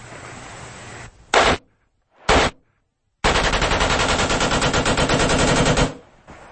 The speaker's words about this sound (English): they fire it from the shoulder the way that it is supposed to work, and you can hear how they get automatic fire